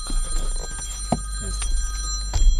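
A phone rings during a recording with a steady, shrill electronic tone that lasts the whole moment, over a low background rumble and a few small knocks.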